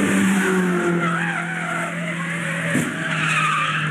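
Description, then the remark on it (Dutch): Tires screech loudly and steadily for several seconds over a droning race-car engine, with a brief sharp burst of noise partway through, like a car sliding out and hitting something. “Kijk maar op YouTube, want ja, de crash-compilaties die vliegen daar om je oren.”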